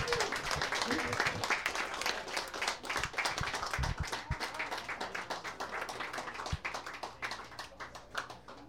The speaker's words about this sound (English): I don't think that piano has seen a workout like that in probably a very long time. What a great, great mini set. Please, another warm round of applause